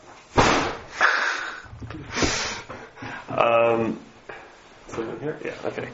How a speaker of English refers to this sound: Don't slam the door.